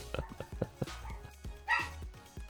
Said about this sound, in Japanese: ワンワン言われてるやん。 ちょっとドア閉めていいですか。 ワンワン言われすぎやわ。